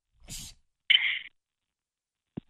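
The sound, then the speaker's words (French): A single sneeze: a short voiced inhale, then a sharp, loud, hissing burst, followed by silence and a faint click at the end. No talking. “Oui, je suis en train d'éternuer.”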